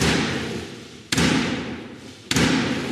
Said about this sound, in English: The Queen's speech is one of those occasions that shows the British state at its best, pomp and circumstance. With golden carriages and a big stick knocking on a big wooden door, it's a dream for those who adore tradition.